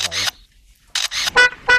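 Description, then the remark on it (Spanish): A bird called the 'soberbia' (superb), a mimic, copies mechanical sounds: two harsh, hissing shutter-like bursts, a brief pause, then a quick run of noisy clicks and two short, buzzy horn-like toots. No one speaks. “Imita, pues eso, una voz, un cantante de ópera, cumpleaños feliz, la melodía de Seinfeld, una motosierra.”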